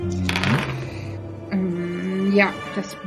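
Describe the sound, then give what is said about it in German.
Dice, rolled for an animal-lore check, clatter and tumble across a hard surface in a few quick bursts of clicks, while a voice murmurs softly underneath. “Ich würfel mal auf.”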